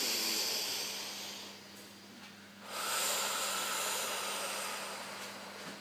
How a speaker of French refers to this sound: Nous allons faire une respiration sur nos trois paliers, notre ventre, notre torse, le haut de nos épaules, de manière à redynamiser un petit peu notre corps.